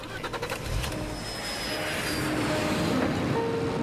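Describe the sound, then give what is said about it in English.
A loud, steady jet engine roar fills the air, a broad rushing whine with a faint high tone, as a private jet lands at an airfield. “A private jet lands at an airfield.”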